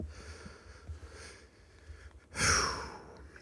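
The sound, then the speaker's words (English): A pet snores softly, low rumbling breaths building to one louder, breathy snort-like exhale near the end, with no talking. “stop the snoring.”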